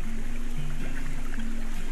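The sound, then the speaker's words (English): Flowing river water in spring rushes steadily and continuously, a dense, even wash of sound with a faint low droning tone underneath and no voices. “Everything can seem a lot clearer, and a river sounds different in spring. It sounds newly alive, like it's in the fullness of its song.”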